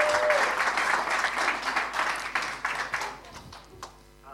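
Dense applause from an audience, many hands clapping loudly and steadily before thinning out into a few scattered claps near the end.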